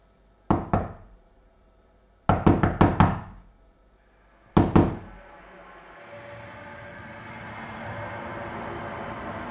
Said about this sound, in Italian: È da un bel po' che bussano alla porta e Gregor non si alza, non risponde.